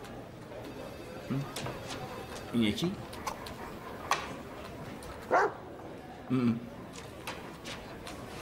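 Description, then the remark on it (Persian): A dog gives several short, separate barks and whimpers spread over a few seconds, with a brief spoken question and a steady background hiss. “یه جا خوندم که جادو رو سگا عمل نمی کنه.”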